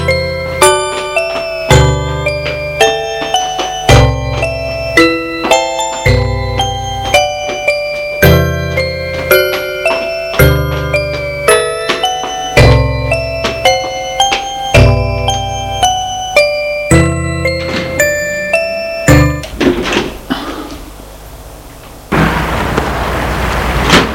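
front door bell ringing

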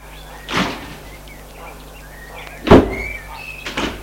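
car doors closing

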